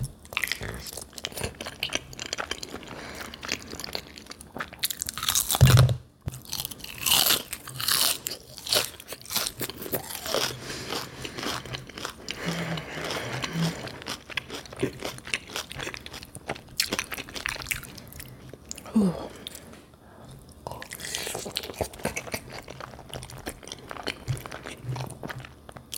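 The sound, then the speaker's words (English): Steady wet chewing of Velveeta shells and cheese, bacon, and tenders in a mukbang, with frequent loud crunches from crispy food, a continuous rhythm of bites and mastication running throughout with a few sharper crunch bursts and brief pauses. “Tonight we're eating mac and cheese, bacon, and tenders.”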